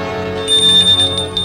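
A front door bell rings with a bright, sustained metallic tone, clear, its shimmering chime repeating in quick pulses for about a second with no voices.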